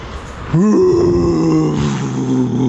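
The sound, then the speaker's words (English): A person in a parking garage imitates a jet taking off with a loud, sustained vocal drone that swoops upward in pitch, then holds a steady, buzzing tone for about two seconds. “Okay, it takes longer than that to lift off.”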